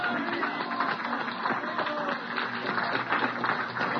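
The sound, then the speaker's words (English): A church audience claps their hands together as a hand clap offering to the Lord during worship, a dense, steady wash of many overlapping claps that holds at an even, fairly loud level for several seconds with no clear rhythm. “Let's give the Lord a hand clap offering, okay?”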